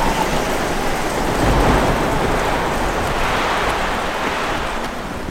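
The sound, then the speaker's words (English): Heavy rain pours down steadily in a dense, continuous hiss, with a deep rumbling low end like thunder rolling beneath it. No voices are present. “As soon as this downpour ends, we'd best be making tracks.”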